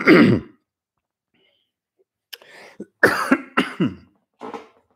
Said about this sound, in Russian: Да, кстати, по поводу моего хрипа и кашля. Я удивился, что вчера меня вот так вот крутило.